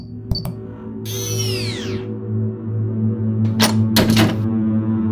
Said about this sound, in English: Shh. Someone's unlocking the door.